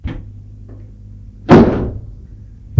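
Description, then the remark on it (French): A door closes with one solid, loud thud that rings out briefly, framed by a faint click before it and a small knock after, over a low steady hum with no talking. “Avant que la porte ne se referme sur lui, il voit qu'elle a sous sa blouse une robe noire.”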